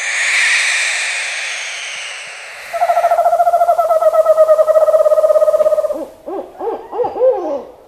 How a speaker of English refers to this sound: That was the barn, eastern screech, sounding like a monkey, the barred owl.